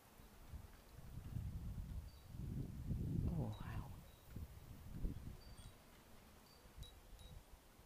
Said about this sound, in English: Oh, it's cold out here. It's a bit windy. So you can probably hear the wind. It's about 20 past 11 on Sunday, the 12th of February. It's a little bit windy. And it's quite cold.